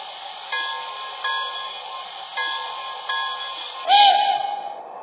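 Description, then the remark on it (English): A passenger train, the Pennsylvania Limited (train number 5), pulls into the station at Philadelphia on track 1 with a steady, high, whistling metallic whine that swells in several pulses and grows loudest near the end, with no voices. “on track 1, train number 5, the Pennsylvania Limited.”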